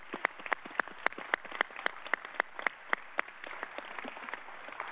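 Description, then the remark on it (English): A crowd at a GE meeting applauds the standing GE retirees, with a dense patter of clapping and a few sharper claps ringing out in a steady, quick rhythm that eases off toward the end. Nobody speaks. “And a round of applause.”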